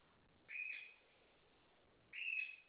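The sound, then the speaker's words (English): A pet bird gives two shrill, whistling calls indoors, each about half a second long and spaced well over a second apart, with no one talking. “Oh, sorry, your bird took all my bird off.”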